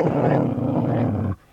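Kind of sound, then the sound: animal, dog growling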